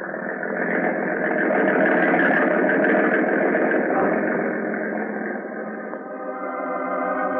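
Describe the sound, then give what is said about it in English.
A boat motor is started and drones steadily and loudly the whole time as the boat heads out to an island, a dense, rumbling churn with no pauses, settling into a more even humming tone near the end. No one speaks. “Now, turn that motor over, baby. Let's get out to that island fast.”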